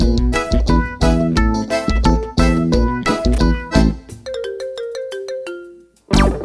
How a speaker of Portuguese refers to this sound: Quando penso em descansar, o meu telefone toca.